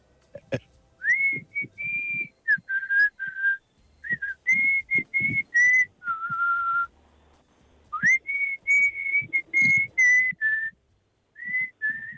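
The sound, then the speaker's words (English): A person whistles a lively tune, clear sustained notes and quick slides in short phrases with brief pauses, loud and bright, with faint low rustling underneath. “Pretty strong whistle.”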